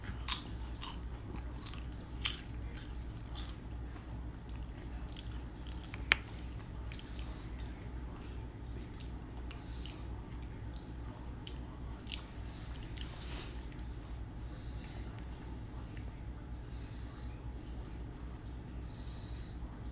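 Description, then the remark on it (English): Steady, wet chewing and biting of Taco Bell food goes on throughout, with frequent crunchy, squishy clicks and an occasional sharper snap, all fairly quiet and without any talking. “This is some good Taco Bell.”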